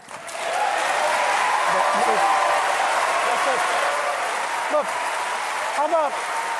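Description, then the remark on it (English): Sustained applause from a large debate audience, dense and steady, with scattered whoops and cheers rising above it and a few voices faintly audible beneath the clapping, in a debate clip featuring Newt Gingrich, Wolf Blitzer and Mitt Romney. “And speaking of the debates, yesterday there was crowd participation.”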